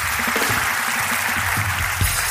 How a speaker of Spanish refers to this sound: ¿Qué tal han pasado? ¿Bien? Un fuerte aplauso entonces, carajo, porque este es el show más caro y más regalón de todo en YouTube, carajo.